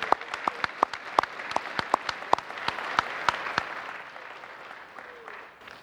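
An audience at Glenmore claps together to honor its longtime members in a steady burst of applause, sharp claps ringing out over a dense wash of hands, then fading to a softer patter near the end.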